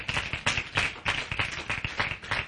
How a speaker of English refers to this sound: Let's give our brother a round of applause again just for pouring his heart out, amen.